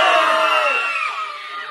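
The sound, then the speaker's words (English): Children at Lincoln Elementary, a cheering section for their wrestler friends, cheer and shout together in a loud, high-pitched burst of overlapping voices, the yelling sustained throughout and easing off slightly toward the end. “when the wrestlers hit the mat this winter, they have a loud and rowdy cheering section ready to support their friends.”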